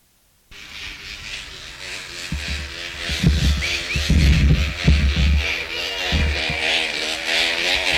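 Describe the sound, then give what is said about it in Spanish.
A plastic object buzzes loudly like a small motorbike engine, starting abruptly and droning steadily, with rough low thumps and rattles swelling through the middle before it settles. “Ah, el plástico ese. Era como una moto eso.”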